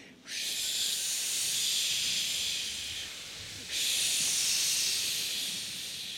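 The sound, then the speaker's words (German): A group of voices imitate blowing wind with a steady, breathy whooshing hiss, held in two long gusts, the second starting abruptly a few seconds in and sounding slightly louder. “Könnt ihr mir alle mit dem Wind helfen?”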